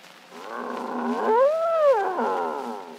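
A bear growls in one long, rumbling roar that swells and bends in pitch midway before settling back, loud with no other sounds around it.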